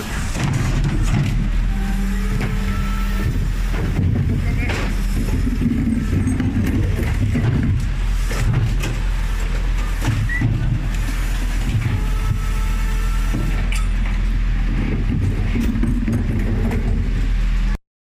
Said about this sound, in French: C'était le bruit des poubelles se renversant dans le camion poubelle.